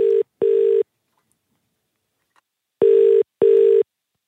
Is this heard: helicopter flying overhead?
no